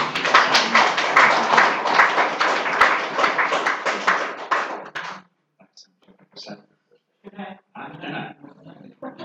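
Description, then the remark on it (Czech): A Brethren Church audience applauds, a dense, steady patter of many hands for about five seconds, then it fades out, leaving scattered noises and a few brief bits of speech. “Můžeme jim zatleskat.”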